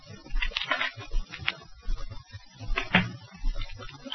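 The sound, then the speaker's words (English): A key scrapes and clicks in the lock of the door of a room in a store, a few sharp metallic clicks and rattles spread over several seconds, fairly quiet, with no voices. “He went out, and I heard a key turn in the lock of the door.”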